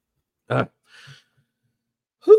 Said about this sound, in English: Cough, cough, cough. Expect that. Sorry. I remembered to take Allegra this morning and I thought I was good. And here we are 34 minutes in. I'm not.